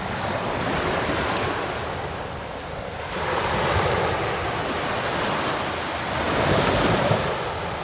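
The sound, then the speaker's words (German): Ocean waves wash in steady surges with a constant rush of wind over them, swelling louder around the middle and again near the end, with no voices present. “Und hört ihr das Wellenrauschen schon?”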